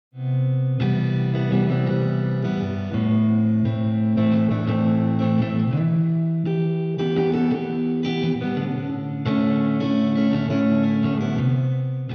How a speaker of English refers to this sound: reverb creates distance, as if the guitar is being played in a neighboring universe.